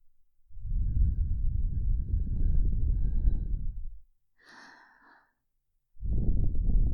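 Warm, slow breathing: a long, low, airy exhale, a brief higher hissing breath after it, then another low whooshing exhale begins. No one speaks.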